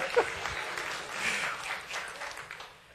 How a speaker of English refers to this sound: So, yay, Air Force. You don't have to clap.